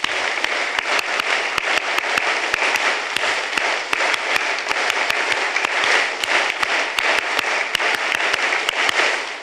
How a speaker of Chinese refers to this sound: 我们一年拍3次这个爱心鼓励，一方面我们拍手鼓掌感谢神，亦都彼此鼓励，好吗？我就数3声就开始了。1、2、3。